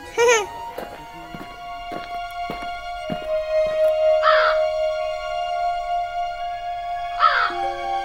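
Large birds on a cliff give three loud, harsh caws, spaced a few seconds apart, over a steady low hum with a few scattered knocks.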